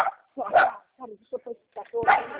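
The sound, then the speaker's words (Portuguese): The speaker's dog barks during a phone call: two loud, sharp barks about a second and a half apart, with a few shorter, softer yips in between. “É que eu tenho meu cachorro, eu sou muito barulhento.”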